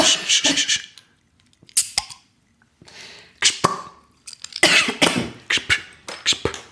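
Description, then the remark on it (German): A loud, raspy burp after drinking Leipziger Gose beer breaks up into a series of short, harsh bursts with brief pauses between them, sputtering and throaty, with no speech alongside. “Achtung, Geröff von der Leipziger Gose.”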